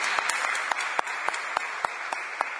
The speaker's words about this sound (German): Und einen herzlichen Applaus für dich.